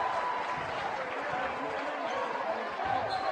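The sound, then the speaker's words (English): A big arena crowd in Glasgow roars and applauds after an alley-oop dunk in a basketball game, a loud, steady wash of cheering that holds for the full few seconds, with no single voice standing out. “That gets the Glasgow crowd on its feet.”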